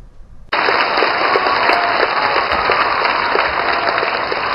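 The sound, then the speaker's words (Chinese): A large audience bursts into applause after a brief quiet moment, a dense, loud clatter of many hands clapping that holds steady without pause until the end, as the audience applauds the Shen Yun New York Arts Troupe at the final show of its Taiwan tour in Taipei. “演出时有观众情不自禁起立鼓掌，现场安可声不绝于耳。”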